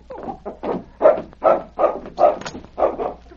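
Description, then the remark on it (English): A dog named King barks repeatedly, about seven or eight mid-pitched barks in a quick, steady rhythm, each fairly loud and short, with no one talking over them. “That's sure some dog to understand like he did.”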